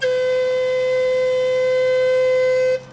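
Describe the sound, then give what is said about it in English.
A single long warning whistle blast at Shaft 22 of the water tunnel project in Brooklyn, warning people in the apartments overlooking the site that a dynamite explosion is 5 minutes away: one loud, steady, high-pitched tone with a rich harmonic edge, held for nearly three seconds before cutting off abruptly. No voices accompany it. “Stewart blows a whistle once to warn people living in the apartments that an explosion is 5 minutes away.”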